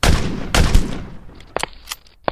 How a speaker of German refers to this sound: Es hat nur 3 Schüsse gegeben.